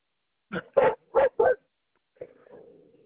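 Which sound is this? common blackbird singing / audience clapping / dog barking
dog barking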